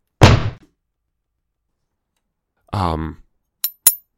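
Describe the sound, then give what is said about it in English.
A voice imitates a front door slamming shut with one loud, abrupt burst, followed after a pause by a shorter vocal sound and two quick faint clicks. “Sorry, that was meant to be the front door slamming shut.”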